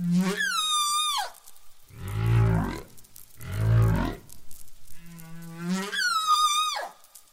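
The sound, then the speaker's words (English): A new humpback whale song recorded at a wintering ground in the South Pacific: rising, wavering high cries with rich harmonics alternate with deep, rumbling moans, a slow repeating phrase of calls heard clearly with no voices present. “But they also found a new, more commonly recorded song.”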